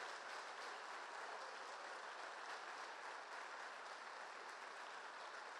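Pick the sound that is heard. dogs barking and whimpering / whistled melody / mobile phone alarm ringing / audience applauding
audience applauding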